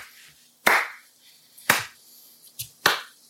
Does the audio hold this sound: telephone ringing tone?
no